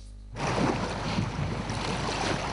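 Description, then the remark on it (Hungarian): Waves on Lake Balaton, where the water level has risen, wash steadily against shore stones in a continuous rushing splash, mixed with some wind noise, starting abruptly after a brief quiet moment. “Itt össze még homokpadokat lehetett látni, most pedig a hullámok mossák a parti köveket.”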